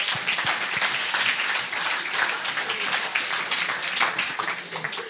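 applause

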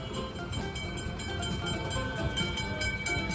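tram riding along rails

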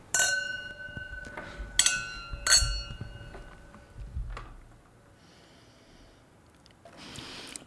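wine glasses clinking

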